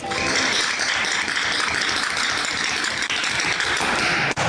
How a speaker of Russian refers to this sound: Актеры учились парить над сценой и отбивать чечетку со скоростью 600 ударов в минуту